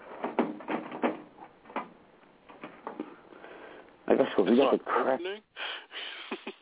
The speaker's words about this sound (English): Ah, man, the bottom drawer won't open. That shit gets stuck all the time.